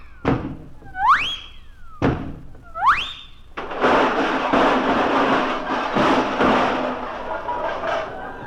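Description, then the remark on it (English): A person trying to walk through locked doors fitted with Yale locks slams into them with a heavy thunk, twice, each impact followed by a rising whistling tone, then a long, loud burst of rumbling, crashing noise. “Watch me go through these doors.”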